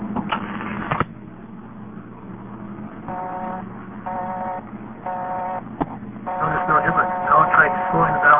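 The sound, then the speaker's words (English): A rotary phone dial, forced to spin much faster than normal while dialing a 0 on a dial tone, whirs back in a quick, rattling burst of clicks and stops abruptly, followed by three evenly spaced electronic tone beeps and then a busier, buzzing line noise. “Now try dialing a speeded up 0. I'll force the dial to go a lot faster than it normally does.”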